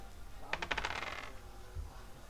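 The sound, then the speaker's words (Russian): A chip drops into a container, landing with a quick burst of bright rattling clicks that fade within a second, followed by a faint low thump and quiet. “Я вытащил его, отложил его, поднял щуп и сбросил его в специальное устройство. Контейнер какой-то.”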